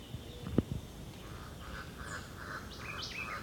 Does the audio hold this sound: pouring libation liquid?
no